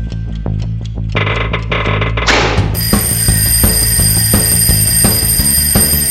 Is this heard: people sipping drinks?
no